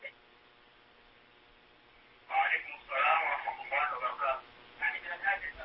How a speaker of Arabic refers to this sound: أخفض صوت التلفاز حتى أسمعك جيدا.